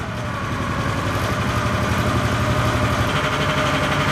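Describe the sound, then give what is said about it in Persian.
The engine of a handmade car, built nine years ago by a craftsman in the Perm region of western Russia and resembling a Ford Model T, idles steadily: a low rumbling drone with a fast, even mechanical pulse and a vibrating rattle that stays constant throughout, with no voices. “یک استادکار در منطقه پرم در نواحی غربی روسیه این اتومبیل دستساز را 9 سال قبل درست کرده و هر روز با آن رانندگی می‌کند.”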